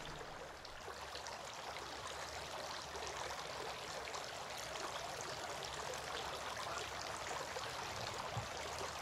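Water trickles and splashes steadily throughout during ritual nose rinsing, as water is drawn into the nostrils with the right hand and expelled with the left, three times; a dense, continuous stream with no pauses and no voices.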